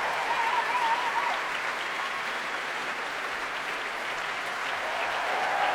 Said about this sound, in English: Applause for the brass there, the saxophones, trumpets on their feet.